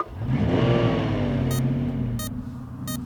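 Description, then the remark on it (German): A jeep engine is started by its driver just after he hangs up the phone; it turns over and revs up, its pitch climbing before settling into a steady rumble, while three short sharp ticks sound at even intervals. No one speaks. “Ah, jetzt legt er den Hörer auf und startet das Auto.”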